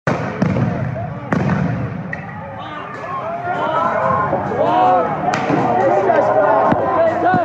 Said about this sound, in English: After only a few hours, police came charging from around the corner, ripping apart barricades and firing off stun grenades and pepper balls.